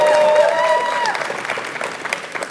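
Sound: audience screaming and cheering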